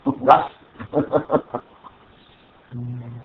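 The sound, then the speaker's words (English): A person mimics a dog's bark, as the dog in a quote from Sergeant Vistari about a dog sliding across sandpaper, with a sharp yelp followed by a quick run of four or five gruff woofs, fairly loud. A steady low hum follows at the end. “What the dog said when he slid across the sandpaper.”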